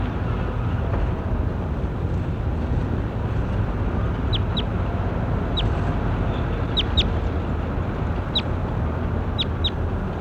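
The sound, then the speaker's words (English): A bird, labeled J9, being recorded gives short, high chirps, scattered in quick pairs and singles through the second half, over a steady low rumbling background noise; no one speaks. “Start recording the J9 again.”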